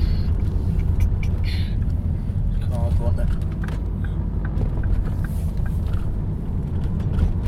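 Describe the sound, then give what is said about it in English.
The engine of a car behind the speaker's vehicle, not a taxi and clearly in a hurry, rumbles steadily, a continuous low drone filling the background with brief higher tones flickering over it. “Car behind me is clearly in a hurry.”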